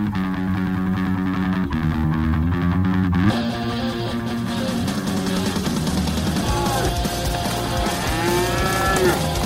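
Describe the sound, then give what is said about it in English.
Cattle raised on ranch land in the Big Bend area of West Texas moo loudly, several long, drawn-out calls overlapping one another in a steady chorus with no talking. “The dream of the American West was come out here, get your own little piece of paradise, you work hard, you raise cattle, you make enough money to look after your family.”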